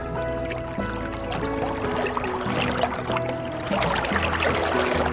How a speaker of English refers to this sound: I see a boat. Let's ride in the boat.